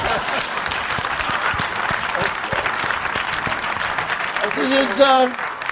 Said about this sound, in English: And I would like some applause for saying that.